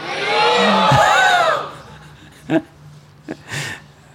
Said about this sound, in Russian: Еще раз, громко крикните «Харибол».